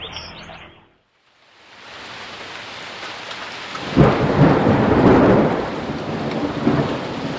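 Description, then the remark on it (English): A sharp thunderclap cracks loudly after a brief hush, then rolls and rumbles on for several seconds over the steady hiss of heavy rain, during a late-night thunder and lightning storm passing over a house in Redmond, in the US Northwest. “record that clap of thunder”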